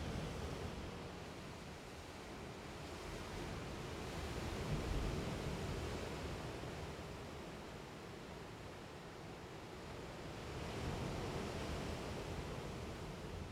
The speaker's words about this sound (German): Wir sind jetzt oberhalb auf einer Art Balkon, könnte man sagen. Unter uns die Felsen und das Meer. Und wie ihr hört, hat es ordentlich Seegang heute. Schon beeindruckend.